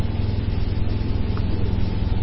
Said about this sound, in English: Some guys, their little boats. The express boat coming up.